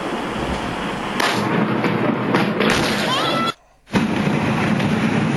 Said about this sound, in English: This is the actual explosion taking place there in China. Just unbelievable.